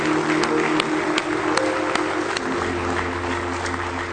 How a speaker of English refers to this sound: Somebody say praise the Lord. Let's give him a good hand clap if you love him this morning.